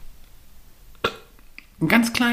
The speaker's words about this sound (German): Ich muss, glaube ich, rülpsen.